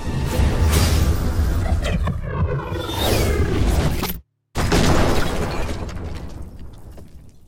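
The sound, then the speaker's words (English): A loud, sweeping magical blast from a cast magic missile whooshes in, cuts out briefly, then erupts into a heavy crash as a stone statue is obliterated and shatters into pieces, with crumbling debris that fades away. No voices. “And the statue is obliterated as this magic missile hits it.”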